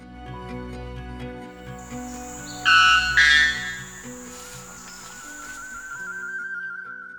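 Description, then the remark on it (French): Birdsong recorded by Riccardo Gagliardi and hosted on xeno-canto.org: a burst of bright, high whistled chirps around the middle, then a thin sustained whistle, all over a steady low tonal drone with no one speaking. “Les chants d'oiseaux que vous avez entendus ont été enregistrés par Riccardo Gagliardi et sont hébergés sur xeno-canto.org.”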